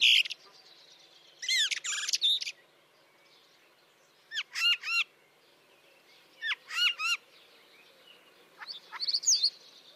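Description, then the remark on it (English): A common starling sings in a series of short bursts of whistles, clicks and warbling chatter, separated by brief pauses, clear against a quiet background. “Or the common starling.”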